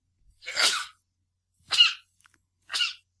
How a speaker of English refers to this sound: Dude, I'm going to sneeze. Hold on.